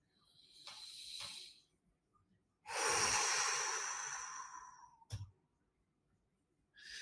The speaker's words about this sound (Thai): หายใจเข้าลึกๆหายใจเข้าลึกๆครับหลับตาครับแล้วหายใจออกอ่ะขอสัก30วินิ่งเหมือนเดิมครับ